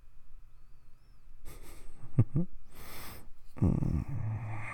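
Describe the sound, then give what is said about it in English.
Exaggerated, put-on snoring: a few breathy snorts and a long hissing exhale, then a low rumbling snore that drags on to the end. “You can stop the fake snoring, though.”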